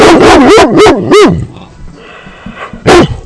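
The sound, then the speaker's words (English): A dog named Ranger barks loudly, a quick run of four high, wavering, almost howling barks, then a short pause and one more bark. “I don't know what else to say, because Ranger says it all.”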